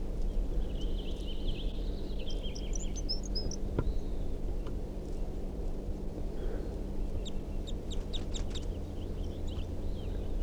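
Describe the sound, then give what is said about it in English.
Song phrases from a wild male crossbill: bursts of high, thin chirps and trills, one around the start and another cluster near the end, over steady low background noise without any talking. “He's giving some song phrases, and 327 is also giving some song phrases.”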